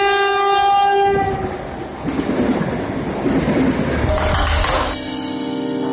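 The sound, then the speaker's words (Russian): A loud train horn blares, then an Allegro passenger train to Russia rumbles past with a steady roar, and a second shorter horn blast sounds near the end. Recorded in Helsinki on 26 March 2022. “Хельсинки. И, повторяю, последний поезд Аллегро в Россию.”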